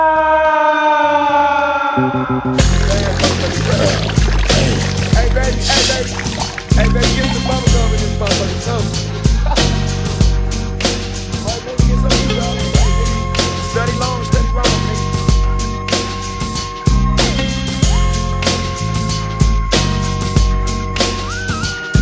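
A 1990s hip-hop song intro: a high, sliding synth whistle opens alone, then a loud, steady bass-heavy beat kicks in and loops with layered keys, no vocals yet.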